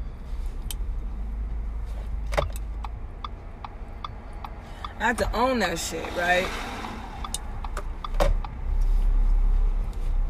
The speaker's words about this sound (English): I think this is my neighbor's truck.